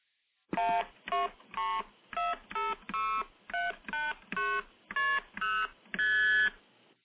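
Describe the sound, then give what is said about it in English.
Twelve multi-frequency telephone signalling tones play one after another in a steady, fairly quick sequence, each a bright, musical two-note beep, with the final tone held a bit longer. No one speaks. “Now, the MF tones sound a bit more musical and, to my mind, more pleasant, but let me play the same set of 12 MF tones.”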